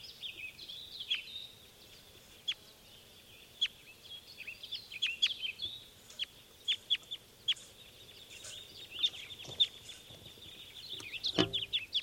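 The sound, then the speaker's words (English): Wild birds taking off, with a scatter of short, sharp high chirps and calls over a low steady rumble, ending in a louder flurry of calls and fluttering noise. “And those were the wild birds taking off.”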